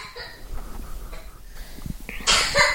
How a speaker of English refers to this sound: Poor thing, she's coughing.